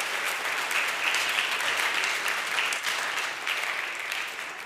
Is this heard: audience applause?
yes